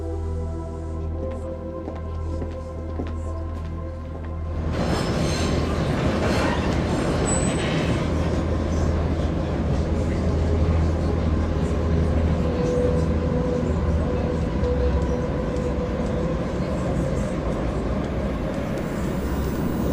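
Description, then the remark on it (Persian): A passenger train rumbles steadily along the tracks, starting as a low hum and growing into a loud, dense roar of wheels and carriage noise after a few seconds, with faint voices. “مسافرین محترم، به دلیل عملیات عمرانی این قطار به طور موقت در ایستگاه بعدی متوقف می شود.”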